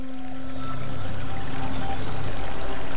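A steady rush of stream water in Córdoba province in summer, flowing and burbling continuously as a barefoot person dips a toe in, with no voices and no distinct splashes, just an even wash of moving water throughout.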